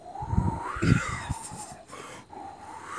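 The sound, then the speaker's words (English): A voice mimics wind gusting through trees: a breathy, whistling whoosh that rises and falls in pitch for about three seconds, with a few soft low puffs early on and no spoken words. “You see the wind blowing, and then the trees go side to side, and they're like...”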